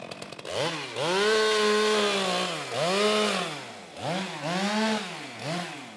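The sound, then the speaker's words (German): A harvester's motorized saw on a long gripper arm cuts down a maple tree next to the town hall in Miesbach, Germany, during pest control measures. Its engine whines loudly, pitch surging and dropping in repeated revs, with no voices. “Neben dem Rathaus schneidet eine Holzerntemaschine, ein sogenannter Harvester, mit einer Säge an einem langen Greifarm einen Ahorn ab und legt ihn auf die Straße.”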